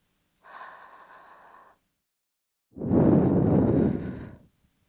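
Two soft breaths blown into the ear to finish an ear cleaning, with no talking: a shorter, lighter, airy puff, then after a brief pause a longer, fuller whooshing exhale that fades out.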